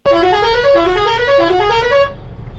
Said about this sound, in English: You heard the traffic jam, right?